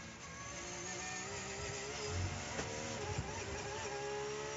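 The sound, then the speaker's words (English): Race car engines roar steadily throughout, a loud, buzzing high-pitched whine with layered harmonic tones and a few brief low thumps, no clear speech, as the cars of Jarvis and Kobayashi draft closely while passing a GT-class Porsche. “Oh, bit of drafting going on between Jarvis and, I think that was Kobayashi, right up his tailpipes as they went by one of the GT cars.”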